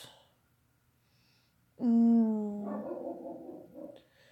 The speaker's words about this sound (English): Oh, see, even the doggy's upset.